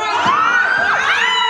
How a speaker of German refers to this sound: Jetzt Geschrei von euch.